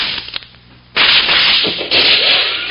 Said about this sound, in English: Oh, for the love of Pete. That shot smashed my rifle to bits.